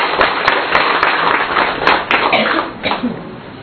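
An audience claps together in a dense burst of applause to welcome people being introduced, many hands striking at once with some sharper individual claps standing out, fairly loud.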